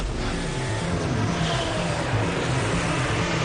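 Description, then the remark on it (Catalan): A loud, continuous racing engine roar fills the whole stretch, its droning pitch wavering slightly as it holds steady, with no voices over it. “Vuelve el rugido a nuestras vidas.”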